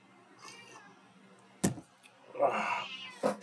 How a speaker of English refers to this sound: Oh, kitty, kitty, kitty. Shut up. Here, play with that. She wants to play with this. You know what it is? I think it's she is mourning our dead so much that she is wailing for them.